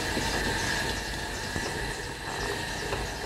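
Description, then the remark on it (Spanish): A potter's wheel in Valdemorillo, an area with centuries of pottery making, turning with a steady, even mechanical whir and a faint high hum running through it. The noise stays at a constant level throughout, with no voices. “Lo que suena, aunque cueste un poquito reconocerlo, es un torno de alfarero.”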